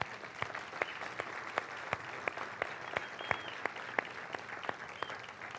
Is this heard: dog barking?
no